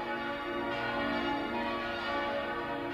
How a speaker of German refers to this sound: Auch die Glocken des Kaiserdoms zu Speyer, die jetzt die Weihnacht 2010 einläuten, wissen darum, was unten tief dem Erdensohne das wechselnde Verhängnis bringt.